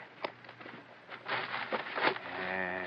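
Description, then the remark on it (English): A horse whinnies near the end, a drawn-out, wavering call following a few seconds of clattering and shuffling noises from the horses. “Better tie the horses.”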